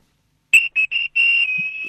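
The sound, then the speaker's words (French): Loud, shrill whistle blasts: three quick sharp toots followed by a long sustained blow, with no one talking, blown in the streets of Douala, Cameroon, as celebrations continue the night after a match. “Vous êtes encore en train de siffler dans les rues de Douala.”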